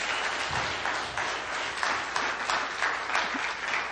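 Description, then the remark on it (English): A church audience applauds their pastor steadily, a dense wash of many hands clapping at once, sustained and fairly loud throughout with no voices standing out. “Who turned on the applause sign?”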